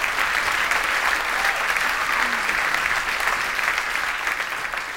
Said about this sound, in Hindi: बहनों और भाइयों, हो जाए चंद्रशेखर साहब के लिए जोरदार तालियां।